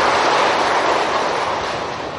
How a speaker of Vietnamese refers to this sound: Xin tán dương công đức toàn thể quý Phật tử qua một tràng pháo tay thật lớn.